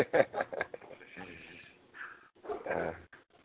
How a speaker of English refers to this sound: As every show, there's the angry Duke barking his way, so he's heard. Well, I'm glad to hear that Duke has made his presence known.